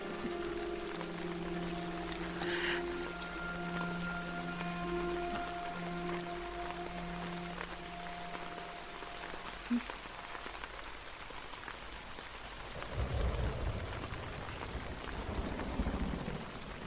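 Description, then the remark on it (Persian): Heavy torrential rain pours down steadily in a dense, continuous hiss, with a low engine-like hum early on and a deeper rushing surge of water near the end. “عجب باران سیلاسه‌ایه مگه نه؟”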